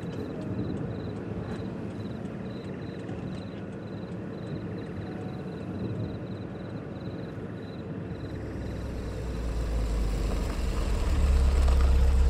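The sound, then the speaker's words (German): A car's engine rumbles steadily from inside the vehicle as four people drive home in the evening, with road noise throughout and a faint repeating high beep, the low drone growing louder toward the end. No one speaks. “Und während die vier nach Hause fahren, sind sie alle sehr schweigsam und aufgeregt.”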